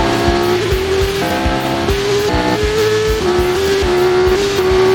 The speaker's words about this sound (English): They spot the Thin Man at the racetrack and... Crispin Glover really is a one-man David Lynch movie. He tries driving out off the track, but Natalie chases him.